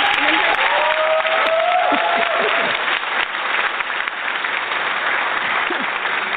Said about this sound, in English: Audience, round of applause. What are they, sleeping on the job? See, this is what happens.